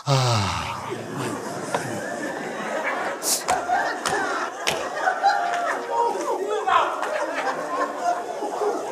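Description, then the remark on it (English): A crowd at a preacher's impartation yawns together on his command, their drawn-out breathy groans overlapping into a loud, continuous wash of sound, mixed with scattered murmurs and gasps throughout. “Everybody yawn.”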